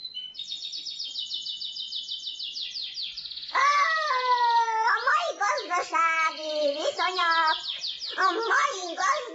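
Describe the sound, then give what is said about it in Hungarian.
Pet birds chirp at feeding time: a quick, high twittering trill opens, then louder, squawky calls and chattering whistles follow one after another with no one talking. “Na, etetés, madárkáim.”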